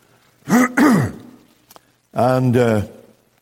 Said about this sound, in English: And you'll have to excuse me as I cough. I should explain to you that quite a number of years ago, I had throat surgery because there was something growing there that should not have been growing.